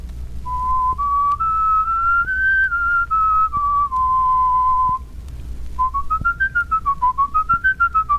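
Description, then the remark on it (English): A person whistles a clear, steady tune as a first whistling exercise, a plain whistle: first a smooth rising-and-falling phrase, then after a short pause a series of quick repeated wavering notes. No talking. “You'll notice that this is just a plain whistle.”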